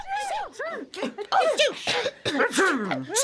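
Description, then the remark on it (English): A quick string of loud, exaggerated sneezes from several voices, overlapping and close up, with vocal 'achoo'-like sounds, more performed than natural. “Everybody started sneezing.”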